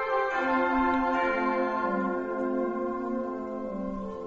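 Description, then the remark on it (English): A solo euphonium sustains warm, bell-like tones, slightly flat, with a change of note about halfway through; steady and fairly loud, with no talking. “Good euphonium, a little flat.”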